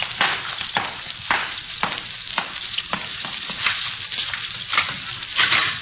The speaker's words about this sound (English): Water's running someplace. Wait a minute. Yeah. Sounds like it's come from over there.